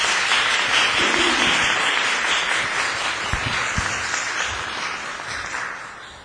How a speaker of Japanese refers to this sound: 皆さん拍手を持ってお迎えください。